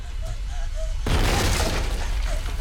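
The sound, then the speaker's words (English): A sudden loud, crashing impact at about one second as a sledgehammer bursts through a wall next to a toilet, followed by a burst of scattering debris and rumbling noise over a low background hum. “A sledgehammer bursts through the wall next to the toilet.”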